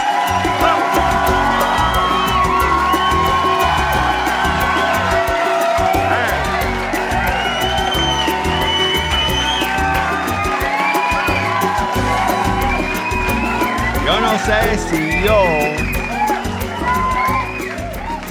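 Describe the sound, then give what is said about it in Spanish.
A full TV studio audience cheers and applauds loudly and steadily, with whoops, yells and shouts rising over dense clapping, sustained without a break for about eighteen seconds. “No sé si yo aplaudiría tanto, porque a mí me gusta el mes de septiembre.”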